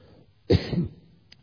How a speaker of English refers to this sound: Problem with this thing on your mouth is you can't get your mouth the way to cough.